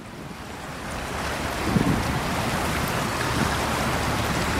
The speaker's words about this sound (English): recorded the sound of the swollen river in Paris as he passed under a bridge just beside it